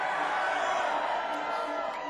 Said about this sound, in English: We like yelling and hollering.